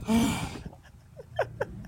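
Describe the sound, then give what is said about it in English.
A single loud sneeze bursts out at the start and fades quickly, followed by a few faint, brief squeaky sounds. “Bless you.”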